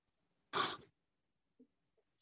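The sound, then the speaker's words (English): A single sharp, loud cough bursts out, harsh and breathy, followed by a couple of faint small sounds and quiet. “Sorry, I got a cough.”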